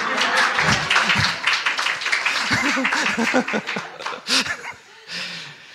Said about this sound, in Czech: Už můžete zatleskat.